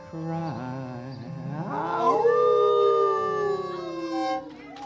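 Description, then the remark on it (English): A person howls like a wolf in a howl of joy: one long, loud wail that rises and wavers, then slides slowly downward before breaking off, with no talking. “Cup of wine in my hand, and it glowing inside me, overwhelmed by the beauty, a howl of joy do I.”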